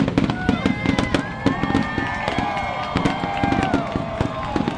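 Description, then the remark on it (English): Loud fireworks crackle and boom in a rapid, continuous barrage over thousands gathered along the water's edge at Battery Park, New York City, whose voices chant "New York City is back" underneath the bursts throughout. “And they kept chanting that over the loud sound of the fireworks that went on for a long time, actually, longer than expected.”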